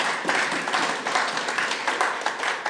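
A church audience claps in steady applause for a 34th wedding anniversary, a dense wash of many overlapping hand claps with slight rhythmic pulses, fairly loud and continuous with no voices on top.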